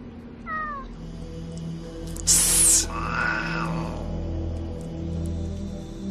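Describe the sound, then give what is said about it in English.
A man imitates a cat: a short mewing call, then a loud, breathy hiss about half a second long, followed by a drawn-out meow over a steady low hum. “The scene where he looks at the cat and hisses at it and then turns and says, meow.”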